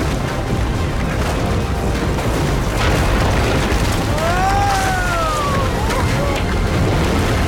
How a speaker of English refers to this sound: The tower hits the water.